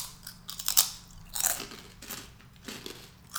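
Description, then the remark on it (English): Crisp, dry crunching of breadstick-like snacks, a series of irregular sharp bites and chews with bright crackly bursts, no talking, at a moderate level. “They're kind of like breadsticks.”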